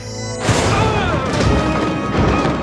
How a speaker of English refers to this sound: and then when he was thrown free from the melee, he taps his communicator badge, and it triggers this improvised explosive